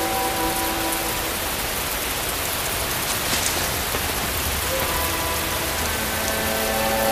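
Heavy rain pours down steadily and without pause on Fadan, a dense, even hiss of countless drops filling the whole scene, with a faint sustained tone humming beneath it.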